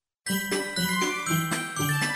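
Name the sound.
page-turn cue chime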